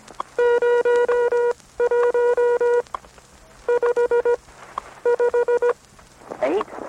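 A National Bureau of Standards WWV shortwave radio time signal: a buzzy, mid-pitched electronic tone pulsing in four quick groups of short, loud beeps, with a faint hiss between bursts and a crackling rustle at the end.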